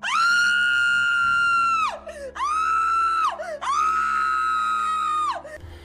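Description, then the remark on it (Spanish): A terrified scream rings out loud, three long, high, sustained wails in a row, each trailing off with a falling pitch before the next begins, in a house at night. “Lancé un alarido terrible que hizo temblar toda la casa.”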